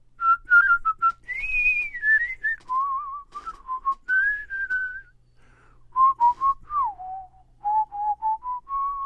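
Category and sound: human body sound, person whistling a tune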